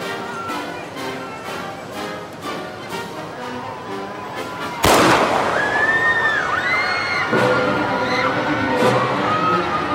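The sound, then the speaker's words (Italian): A single loud, sharp gunshot cracks out midway through at Dealey Plaza as a presidential motorcade passes, cutting across a busy background of crowd noise and chatter that continues with shrill, wavering cries afterward. “Abbiamo sentito degli spari, non capiamo!”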